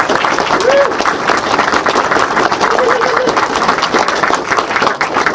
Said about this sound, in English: Big hand of applause for this guy.